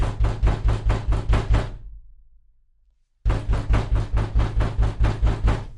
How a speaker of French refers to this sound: Il était sur le point de se rapprocher de la porte quand les coups reprirent.